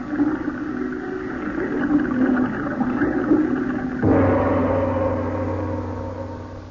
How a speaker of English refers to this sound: And to make the job complete, I'll just open those spigots and flood this room.